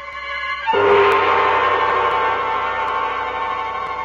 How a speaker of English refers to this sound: I wait till the train goes over the bridge.